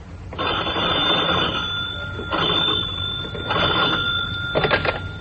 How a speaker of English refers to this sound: The phone rang.